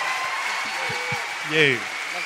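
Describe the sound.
A live show audience claps steadily for a man who has just taken part, a dense, continuous wash of applause, with a few voices calling out and cheering over it, briefly swelling louder toward the end.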